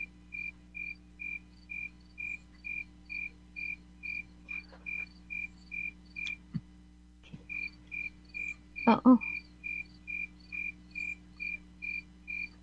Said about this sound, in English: Why am I not hearing anything? I hear crickets. Yeah, okay. Yeah, those crickets are loud. I hear them coming back, feeding back.